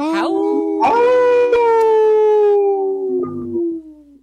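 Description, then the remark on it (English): A single long wolf-like howl by a Timberwolf fan imitating a timberwolf rises briefly, then holds a steady mid-pitched tone for about three seconds before sliding slightly down and fading. “I think I hear a howl from a Timberwolf fan.”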